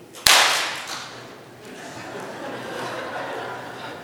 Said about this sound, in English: So you need to raise your hands. And you need to shake them a little bit. And then all at the same time, we have to clap over our heads.